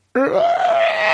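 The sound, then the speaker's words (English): A voice imitates a creaking door swinging open: one drawn-out, strained, groaning tone that starts abruptly and holds steady for about a second, loud, with no other sounds. “I like to make a creaking noise when I open doors.”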